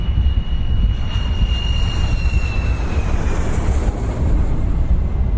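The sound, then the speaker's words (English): A loud, steady aircraft engine roar with deep rumble and a high turbine whine that slowly drops in pitch, continuous, with no voices, as the aircraft reaches its parking position before the engines are turned off. “Parking position. Turn off the engines with end and home.”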